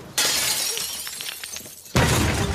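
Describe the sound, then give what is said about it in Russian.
At night, a grenade is thrown through the window of Gotsman's flat. Window glass shatters with a sudden crash, followed by scattered tinkling and clattering shards, then a second loud, rushing burst of noise cuts in near the end. No voices. “Поднимается по галерее, достает из кармана пиджака гранату и бросает в окно Гоцмана.”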